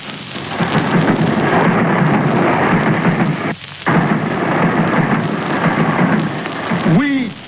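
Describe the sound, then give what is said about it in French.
Trains rumble in a V rhythm: a loud, steady roar that breaks off for a moment midway, then resumes before a short whistle-like tone rises at the very end. “Les trains.”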